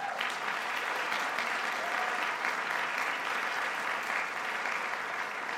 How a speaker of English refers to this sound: They recently went to the North Shore Jazz Festival, and they're the first jazz combo in our school's history to ever place at a major jazz festival, so they deserve a round of applause for that.